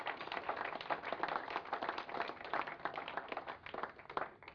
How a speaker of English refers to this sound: So can we just give a round of applause for Anton, Graham? Thank you.